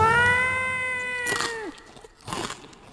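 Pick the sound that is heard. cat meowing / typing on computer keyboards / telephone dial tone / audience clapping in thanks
cat meowing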